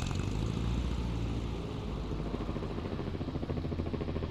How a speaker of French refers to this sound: L'appareil n'est pas équipé pour voler de nuit, et malgré les fortes bourrasques, l'équipage reprend place dans l'hélicoptère et il redécolle dans les airs.